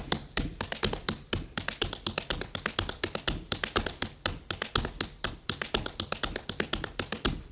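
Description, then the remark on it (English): Tap dance footwork repeating the four-sounded or Tennessee walking step, a time step: quick clusters of sharp, bright taps and heel drops in a steady, syncopated rhythm, continuing evenly throughout with no voices. “the four-sounded or Tennessee walking step, which I think of as the time step or root step for this dance form.”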